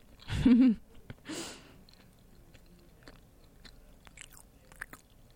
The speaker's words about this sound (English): Sorry, I'm chewing. Just give me like 2 seconds or like three or five. This is like ASMR.